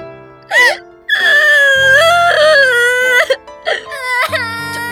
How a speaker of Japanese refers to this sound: ちょっと泣くのはやめなさい。